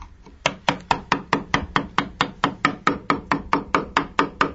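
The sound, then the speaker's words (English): A wooden mallet drives a chisel into a large piece of oak in a steady, even rhythm, about four sharp knocks per second, as a craftsman carves a coat of arms. The strikes are clear, with no voices. “Well, if you can't identify that sound, it's a chisel and a wood hammer. There's a specialist here, a craftsman, who is whittling away at a large piece of oak.”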